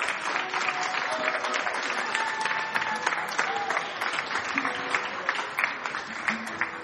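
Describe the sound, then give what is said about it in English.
Sustained applause from a sizable audience, a dense steady patter of many hands clapping at a fairly even level for several seconds, with faint crowd murmur mixed in. “Let's give a round of applause to these good folk.”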